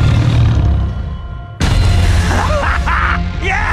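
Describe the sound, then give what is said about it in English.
Giant wolves running wild in a forest growl in a deep, rumbling drone, then a sudden loud burst brings snarling roars and rising, wavering cries layered over a heavy low background. “Only a handful entered the forest. Giant wolves ran wild.”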